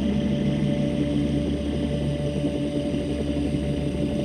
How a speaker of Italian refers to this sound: Il rumore del jet rimbomba e gli echi si mescolano tra loro.